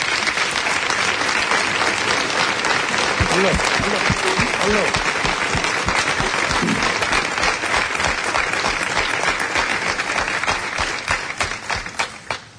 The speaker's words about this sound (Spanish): y todos sus músicos de la Banda Sinfónica Municipal de Huelva, que se han comprometido mucho con este pregón y que lo han trabajado mucho. Yo le pediría a ustedes, maestro, ponga en pie a su banda, por favor, un aplauso para ellos, si no les importa.